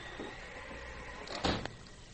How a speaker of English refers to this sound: Close the door